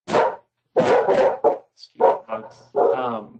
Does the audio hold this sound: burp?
no